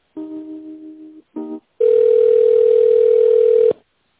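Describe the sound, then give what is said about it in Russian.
A telephone line tone during a call transfer to a tender department: two short steady electronic tones, then a longer continuous ringing-back tone lasting about two seconds, clear with no speech. “Ну, давайте я вас переключу, может, о нем что-то новое скажут. Переключу на тендер.”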